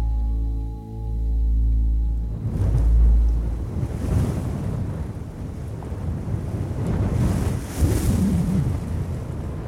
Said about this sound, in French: C'est un vent qui part de très loin, je crois, qui part de Russie, un truc comme ça, et qui traverse l'Allemagne, et qui traverse toutes les zones très très froides, et qui s'engouffre dans la vallée du Rhône